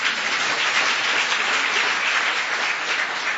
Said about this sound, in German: mal Applaus für den Gitarristen.